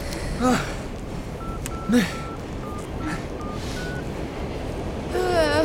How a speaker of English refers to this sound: It's ringing.